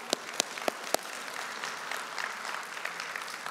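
An audience applauds: four sharp, separate claps ring out first, then blur into a steady, fairly soft patter of many hands clapping together, with no voices over it.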